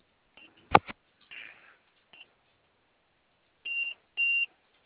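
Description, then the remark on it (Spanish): Short electronic beeps from a glovebox keypad as the code 1414 is entered sound one after another at uneven intervals: a couple of brief chirps, then two longer steady tones near the end, with a sharp click or tap early on and no talking. “Ok, ¿puedes meter la clave 1414 gato?”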